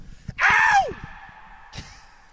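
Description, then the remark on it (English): A single loud, high scream lasting about half a second, its pitch sliding downward at the end, followed by a lingering echo that fades through the empty Tottenham Hotspur stadium in London before a brief soft knock; the scream is made to test the echo. “can I scream just to hear the echo?”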